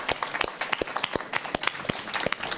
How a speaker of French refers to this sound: Sylvie Arnoux, que je vous prie d'applaudir, s'il vous plaît.